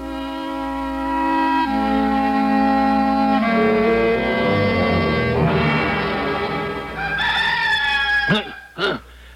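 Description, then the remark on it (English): Ma Gaines' old rooster crows loudly in the morning while it is still dark, a long, drawn-out call that climbs in steps and breaks off in two sharp, falling cries, with a steady tonal drone sounding underneath. “Oh, I'd still be pounding my ear if it wasn't for Ma Gaines' old feisty rooster.”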